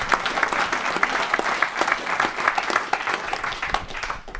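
A crowd applauds steadily, many hands clapping in a dense, continuous patter that stays fairly loud throughout before thinning slightly at the end.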